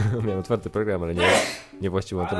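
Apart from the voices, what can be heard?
sneeze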